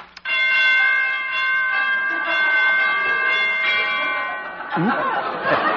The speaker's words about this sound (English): Door chimes need tuning. Who is it?